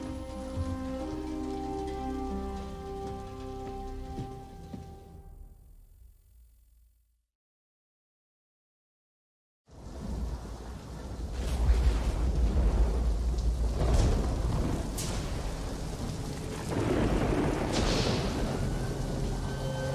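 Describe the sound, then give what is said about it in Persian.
After a soft tonal passage fades into brief silence, a heavy storm bursts in, growing stronger moment by moment: steady rain pouring down with deep rumbles of thunder rolling underneath, no voices. “کلی باید با هم حرف بزنیم ولی طوفان داره لحظه به لحظه شدیدتر میشه و ما باید ازش جلو بزنیم.”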